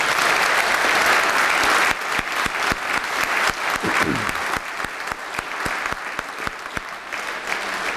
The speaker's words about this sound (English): because really, yeah, whoever was starting a clap, I think that's what's appropriate.